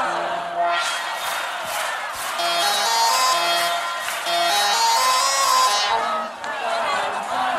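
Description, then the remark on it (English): A large crowd sings loudly along to tunes the performer plays, many voices blending into a dense, sustained roar of melody over steady low instrumental notes, continuous throughout with brief dips in volume. “I'm gonna play a couple of tunes. If you know them, sing along as loud as you can.”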